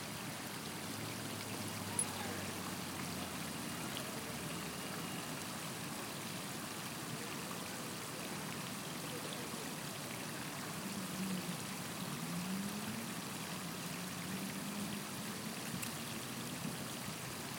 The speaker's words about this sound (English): Rather lovely, actually. Water that just seems to be gently flowing down some kind of surface. It's the sunlight is shining off one end of the sculpture. A sort of metallic sheen.